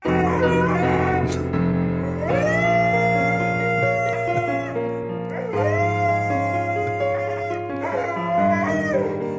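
Dogs howl along to loud, steady music of an epic piano ballad, their long rising and falling wails sliding over sustained chords in several drawn-out bursts, with no talking.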